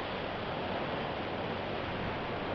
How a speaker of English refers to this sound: Might be able to hear the water in the background again now.